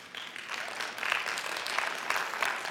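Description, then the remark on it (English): An audience at a church service breaks into sustained applause, a dense wash of many hands clapping at a steady, moderate loudness for the whole stretch, with no voices standing out. “All the people that mess up a grip just clapped right now.”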